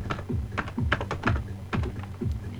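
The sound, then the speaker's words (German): Quick keystrokes on a computer keyboard as an admin password is entered to add software, a short burst of distinct clacks in an uneven rhythm, fairly clear with no talking. “Klicke drauf, gebe mein Admin-Passwort ein.”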